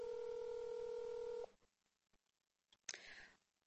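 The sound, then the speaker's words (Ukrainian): A telephone keypad tone sounds as one steady, fairly loud dual-pitched beep held for about a second and a half, then stops abruptly, leaving quiet room noise and a short clatter. “Соломія Анатоліївна зараз відповість на телефон.”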